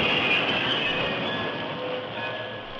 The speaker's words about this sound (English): The great horse Silver followed alongside the engine as the train of cars rolled over the tracks